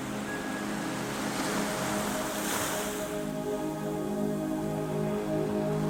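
Sea waves wash steadily over a dark sea on a moonless, starry night, with a soft surge swelling midway, while a fishing boat's low, droning engine hum runs continuously underneath. No voices are heard.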